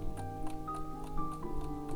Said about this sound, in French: Le rendez-vous est donné dans son atelier à Charpais. Silence apaisant. Seul le mécanisme de l'horloge semble donner le temps, qui ici n'a plus aucune importance.